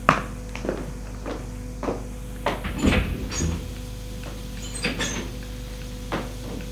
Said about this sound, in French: Elle a ouvert une petite porte vitrée du couloir. Il entre.